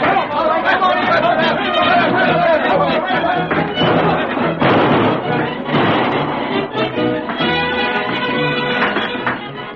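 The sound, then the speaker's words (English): Loud, busy scene from a Lone Ranger radio drama: outlaws' gunshots crack over a steady drum of the horse Silver's galloping hooves, with voices chattering and shouting underneath, continuous throughout. “Keep firing. Empty your guns.”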